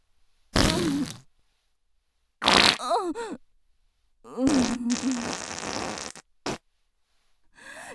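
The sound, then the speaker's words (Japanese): Five loud fart sounds from a woman in a row, separated by short silences. Some are sputtering and wet, one rises into a squeaky, tonal whine, and one drags on for over a second. “全然止まらないわ。昨日何食べたっけ。それにしても我ながらひどい匂い。音は汚いし臭いし最低ね。”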